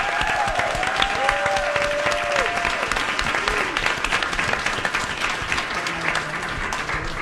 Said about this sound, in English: I want the loudest applause for them because they're just amazing.